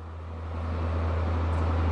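Steady road traffic on the Margit Bridge in the Hungarian capital rumbles with a deep, constant engine hum that swells slightly louder over a couple of seconds, as traffic slowly picks up. No voices.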